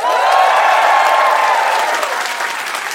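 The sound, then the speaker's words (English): A live show audience breaks into a round of applause, loud and steady at first, with a dense wash of many hands clapping that eases off slightly toward the end. “So just to meet everyone as a crowd, give me a round of applause if you've ever heard our show before.”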